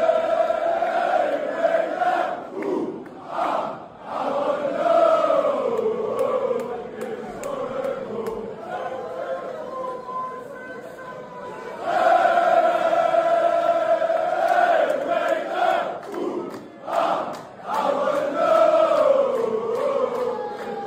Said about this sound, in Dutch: Het zijn fijne supporters, staan ergens in een grote hal. En er staat er één gozer op een verhoging. Ja. En die doet die 2, 3, 4, 5 Maar die zingt echt de long uit zijn lijf.